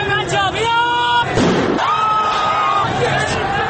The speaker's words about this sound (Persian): فیلم هایی که از راهپیمایی های معترضان در اینترنت منتشر شده تلفیقی از صداهای مردم، شلیک گلوله و شیون جمعیت است.